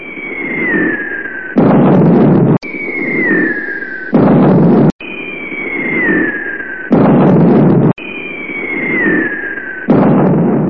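Aircraft noise and cluster bombs exploding everywhere: four times over, a falling whistle drops in pitch and ends in a loud, harsh blast, in a steady repeating cycle with no voices.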